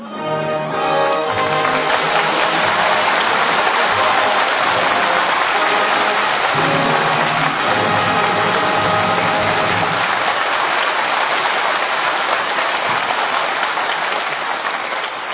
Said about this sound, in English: those doggone water pipes are breaking down like this. You see what I mean, folks?